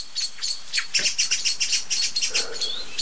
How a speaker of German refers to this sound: Richtig laut, wie ich finde. Und es ist nicht nur eine Amsel oder eine Singdrossel. Es sind jetzt viele, ne? Jetzt kommt der Pyrol, setzt sich ganz oben auf die Krone, über die ganze Glocke von Alarmrufen.